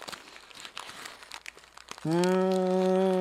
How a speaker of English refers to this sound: Paper? I'll buy that it's burning paper.